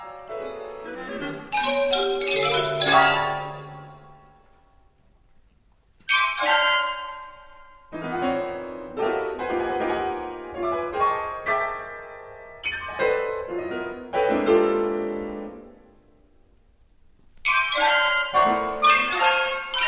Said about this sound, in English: Now, I invite you to close your eyes and listen to this French music and just imagine that you're hearing the sounds of colours.